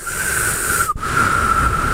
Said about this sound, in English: We're just trying to whistle.